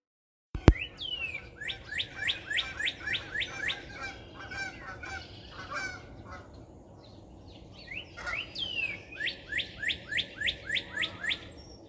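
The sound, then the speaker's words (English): Birds sing outside a door in rapid, repeating high chirps, while two geese fly over, honking loudly in rhythmic bursts that fade and then return, with no one speaking. “Just had to share the crazy sounds outside my door, and I had no idea that the two geese were going to fly over at the time that I was recording the birds.”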